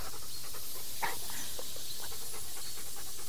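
Steady, breathy hissing from snakes runs throughout, with a few short louder puffs rising out of the continuous airy noise. No one speaks.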